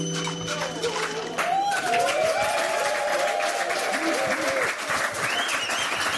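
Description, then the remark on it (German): A studio audience applauds and cheers loudly, steady clapping with whoops and shouted voices rising over it for several seconds, sustained throughout. “Ja, Sie merken schon, mein Publikum hat Spaß im Glas.”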